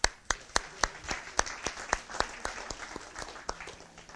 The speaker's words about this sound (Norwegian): Da drister jeg meg til å spørre hvem BKA. Der ja, liten applaus.